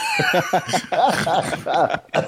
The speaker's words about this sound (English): Oh my God, don't make me cough. I think it's too late.